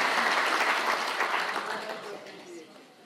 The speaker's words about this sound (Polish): Dziękujemy Wam za to. To dla Państwa są oklaski, nie dla nas.